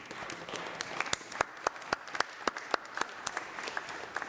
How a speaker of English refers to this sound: And I think you need to give yourselves a round of applause.